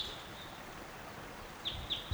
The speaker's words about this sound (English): Bird's right above the camp.